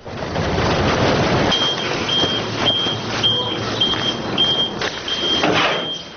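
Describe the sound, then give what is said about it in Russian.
Orange garbage trucks rumble and idle while a steady reversing beeper repeats at an even pace, with clattering and dumping noises rising through the engine din as they arrive at a landfill on the outskirts of Tbilisi, Georgia, and dump mounds of trash from their beds onto the ground. “Оранжевые машины подъезжают к мусорной свалке на окраине Тбилиси. С кузова на землю они сбрасывают горы мусора, пестрящие разноцветными целлофановыми пакетами.”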